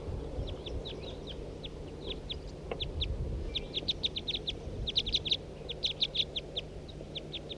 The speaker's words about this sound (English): Here comes a bird. Two, three, four birds.